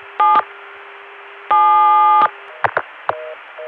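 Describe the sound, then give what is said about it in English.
Electronic telephone signaling tones sent down a long stacked trunk-line connection: two steady multi-tone bursts, one short and one longer, followed by a few quick clicks and brief beeps, all fairly loud over a hissy line. “If you're going to do stacking, in most cases, you are limited by the fact that your tones can only get so far down the line before the equipment at the distant end can't hear you anymore.”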